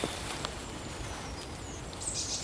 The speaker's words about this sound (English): I think that's a great tit.